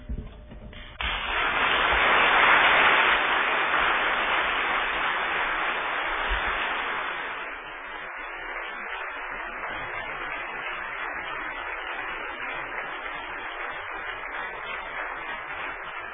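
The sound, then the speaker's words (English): An audience breaks into applause that swells quickly to a dense, loud patter, then eases after several seconds into steadier, softer clapping that carries on to the end with no talking. “I'm sure the response to applaud comes from many different sources, for many different reasons, but one of which undoubtedly is a recognition that God is at work in people's lives, and that even in the midst of profound challenges, He shows up.”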